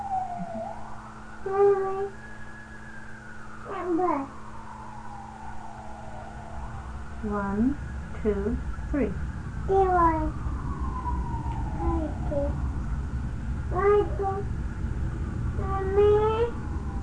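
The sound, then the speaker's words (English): A fire engine siren wails in long, slow rising and falling sweeps through the whole stretch, fairly steady in level, while short vocal bursts and chatter break in over it. “Oh! Fire engine. It's a fire engine.”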